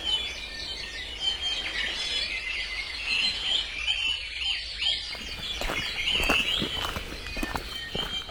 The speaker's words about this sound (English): I'm thinking wave sounds. I'm thinking native birds, maybe like the crunch of leaves or grass under your feet as you go through a hike.